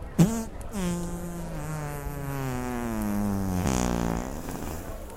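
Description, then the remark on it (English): A long, drawn-out fart sound, buzzy, tonal and steady, sagging slowly in pitch for several seconds before a short rising squeak near the end; no talking over it. “Oh, you farted right in my fucking mouth.”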